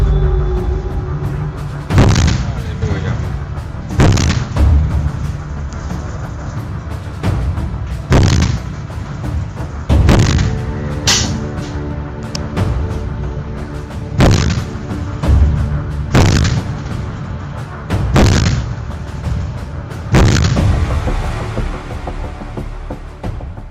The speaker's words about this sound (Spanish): Pues porque han conservado la tecnología de refrigeración del tubo mediante agua marina. Gracias a ello, el cañón se enfría más rápido y puede sostener una cadencia de tiro muy superior. Es más, vamos a verlo en acción. Fijaros.